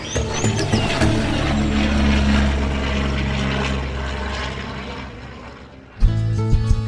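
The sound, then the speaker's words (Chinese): A propeller airplane drones steadily for about six seconds, a loud sustained engine hum with harmonic tones, then it cuts to a brighter, tonal burst of sound at the end. “返家十万里，开飞机陪小燕鸭飞行。”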